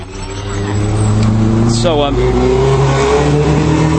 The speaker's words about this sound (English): Yeah, so a motorcycle there or something.